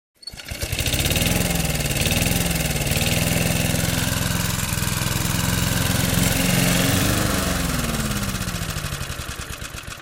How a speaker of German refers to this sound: Das andere war ein Föhn und das letzte Geräusch ein Rasenmäher.